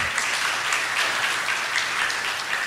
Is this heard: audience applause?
yes